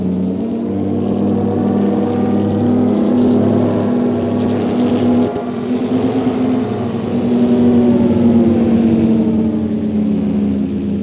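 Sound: car engine revving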